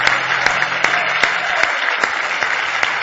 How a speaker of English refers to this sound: Now give Jesus a big hand clap of praise. Hallelujah.